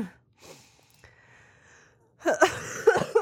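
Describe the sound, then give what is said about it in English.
After a quiet, breathy stretch, a close-up burst of loud coughing erupts, three or so harsh, rapid coughs in quick succession with no talking. “I'm so sorry. I can't cut out the coughs.”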